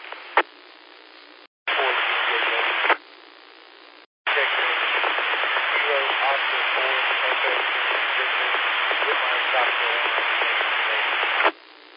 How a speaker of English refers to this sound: Okay, that last station, you're down in the white noise. I got Kilo Oscar 4, but I didn't get your suffix.